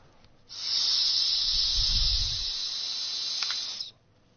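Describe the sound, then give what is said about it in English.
Someone blows into a breathalyzer: a steady, high-pitched hissing tone holds for about three and a half seconds, with a soft, low breathy rush swelling briefly in the middle. No one speaks. “When it says blow, then blow into there.”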